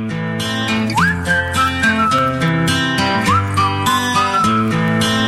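A bright whistled melody rises and glides over a full pop backing track with steady beat and layered instruments, loud and up front, repeating its sliding phrase twice.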